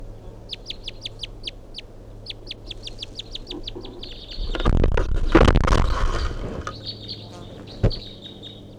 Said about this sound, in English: 8:11, that bird's still perched up in the pine tree here, giving these weird calls or whatever.